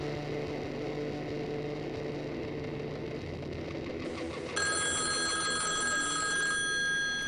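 A phone on a cluttered coffee table beside a couch starts ringing partway through, before 9 in the morning, loud, its bright metallic trill cutting over a steady low engine-like hum that runs the whole time. Nobody speaks.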